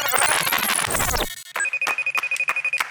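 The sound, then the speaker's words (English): A telephone rings with a rapid, steady electronic trill of short repeating pulses, fairly loud, right after a burst of noisy, sweeping sound. “Remember this phone call?”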